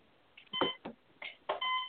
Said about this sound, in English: Sounds like somebody's alarm. It's time to wake up, everybody.